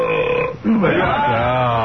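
A man lets out a loud, drawn-out burp that rumbles and wavers in pitch for over a second, with no talking over it.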